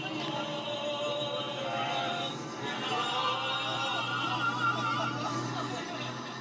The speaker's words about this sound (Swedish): Här åks det buss.